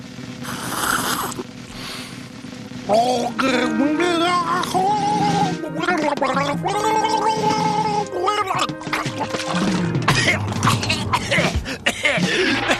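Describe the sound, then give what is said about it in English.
In a ventriloquist act, the dummy sings a song while the ventriloquist drinks a glass of water: a voice warbles a wavering, sung melody through a mouthful of water, producing a bubbly, gurgling gargle that runs almost continuously and fairly loud for over ten seconds. “And now, little Jimmy will sing a song while I drink a glass of water.”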